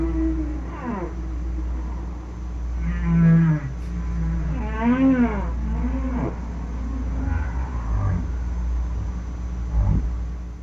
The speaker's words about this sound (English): Here we go. Here's the humpback whale.